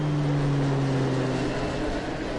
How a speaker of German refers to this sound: Flugzeuge können laut sein, manchmal sogar richtig laut.